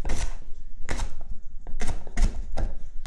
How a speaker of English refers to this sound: And I'm literally just chopping up some leek here. I've got it quite fine.